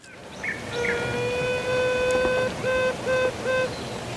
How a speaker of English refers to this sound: Can we hear it again, Richie? Just give us a quick blast of the piping bee, just so you can remember us.